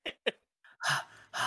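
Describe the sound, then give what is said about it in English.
A voice imitates a video game character's heavy, exaggerated panting: two quick sharp breaths, a brief pause, then longer, harsh, breathy huffs. “Time I fucking play Reach, all I hear is the goddamn panting.”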